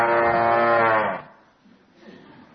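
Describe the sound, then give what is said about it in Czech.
A cow in a herd lets out one loud, drawn-out moo, followed by fainter lowing from other cattle. “Stádo kráv. Myslím, že to bylo stádo? Kráva.”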